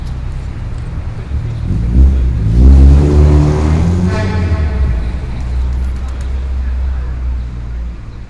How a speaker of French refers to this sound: Le centre-ville est très actif, avec beaucoup de bruit et circulation.